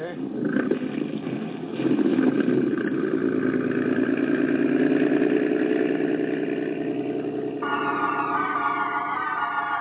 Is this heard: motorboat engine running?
yes